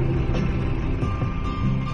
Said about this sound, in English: Step, if you will, into the car in which I'm being driven around the city and back to the days of the Vietnam War.